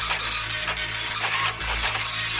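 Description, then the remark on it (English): A slow printer runs steadily and unhurriedly, a continuous mechanical whir with a low motor hum and brief pauses in its rhythm, fairly loud, with no voices. “It's quite a slow printer.”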